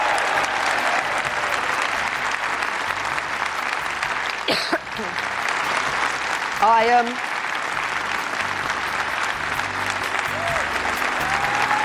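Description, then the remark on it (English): Sustained applause from a large crowd during a speech by Theresa May, dense and steady throughout, with a brief vocal shout rising above the clapping partway through. “And the applause gets louder.”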